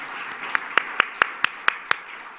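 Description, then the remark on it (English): An audience claps again at the speaker's order, in a steady, even rhythm, about eight sharp beats in quick succession over a constant wash of crowd noise, with no voices on top. “And as they were, yes, clap again. It's an order.”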